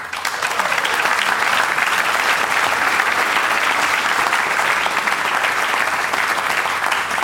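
Steady, dense applause from an audience fills the whole stretch, a continuous crackle of many hands clapping at an even, fairly loud level with no voices standing out.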